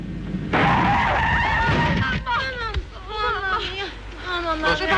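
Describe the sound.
A car whose brakes have failed at a railway level crossing skids with a loud, sudden squeal of tires and rushing noise for about two seconds, then excited, shouting voices take over as the skid dies away.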